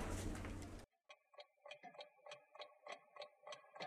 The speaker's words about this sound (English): Ooh, a neat store with all kinds of clocks in it. Boy, that's fun. I'm gonna go in and check it out.